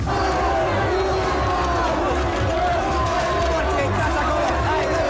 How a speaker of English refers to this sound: The crowd's barging towards the doors. We got a mob's coming through. They're storming through the service office door.